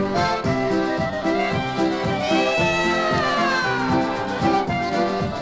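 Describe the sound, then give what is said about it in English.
A man sings in Polish with meow-like syllables over a bouncy polka band with steady oom-pah bass and accordion, the vocal line imitating cats' meows in a lively, loud, continuous song. “All right, see now, I know he was singing in Polish, but I think he was also singing part of that in Cat.”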